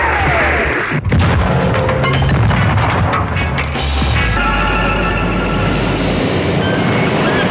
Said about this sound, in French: Deux F-16 qui vous canardent, sympa le comité d'accueil, hein. Trois, mais ils ont juste tiré les feux d'artifice un peu trop près de l'appareil. Mais sinon, c'était joli, hein.